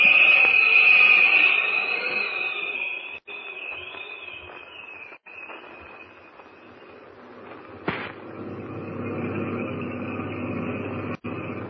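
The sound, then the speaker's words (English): Heavy oil trucks rumble along steadily on a bright moonlit night, a low engine drone that thickens and grows fuller later on, beneath a constant high, shrill chirring like night insects. No one speaks. “Got a fine night for our first trip with these oil trucks”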